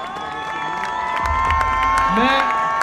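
A large crowd cheers steadily, with shouts, whoops and scattered clapping blending into a dense, continuous roar that stays loud for the whole few seconds.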